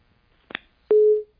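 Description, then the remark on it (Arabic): A short crackling click as a caller's phone line from Morocco drops, then a single loud, steady telephone busy-tone beep lasting about a third of a second, with no voices. “طيب ربما قطع الاتصال”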